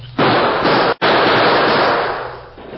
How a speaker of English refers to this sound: Faced with an advancing wall of gunfire from the Redford sheriff and a group of excited townsmen, the Lone Ranger put his own guns into action to cover a retreat.